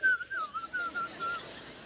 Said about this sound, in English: You know when you get nervous, you whistle?